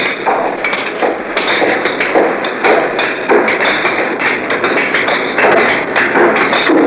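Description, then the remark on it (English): Steady, fairly loud hammering by workmen in the street beneath a window in Manila on a steaming morning, recorded on a CBS wire recorder, with rapid overlapping blows ringing out one after another over a constant wash of street noise; nobody speaks. “That's when workmen showed up beneath our window to begin hammering.”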